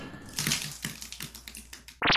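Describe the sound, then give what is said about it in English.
A cartoonish spontaneous head implosion effect from a card drawn from a random disaster deck: a rapid run of crunching, cracking snaps over a couple of seconds, ending abruptly in a loud, dense squelching burst. “Spontaneous head implosion again.”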